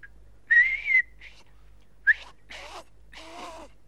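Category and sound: human body sound, person whistling a tune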